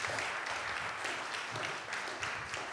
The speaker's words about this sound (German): Ja, großer Applaus.